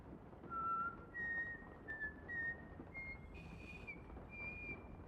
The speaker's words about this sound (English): She steps forward as she whistles.